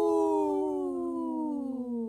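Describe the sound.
A person imitates a wolf howl: one long, steady, voiced tone that glides slowly downward in pitch over about two seconds, fairly loud, with no talking.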